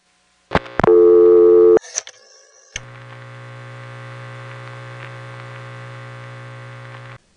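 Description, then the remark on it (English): A home telephone line on Long Island with a few clicks and a short loud tone, then a steady, buzzy low hum that drones on evenly for several seconds while a number is being dialed, with no voices. “By contrast, my home phone line in Long Island always had had a hum on the line while you were dialing a number.”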